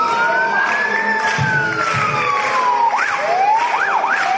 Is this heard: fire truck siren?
yes